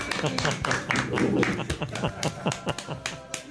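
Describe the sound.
A small group claps in irregular, overlapping bursts that last a few seconds at a steady, moderate loudness, with voices murmuring underneath.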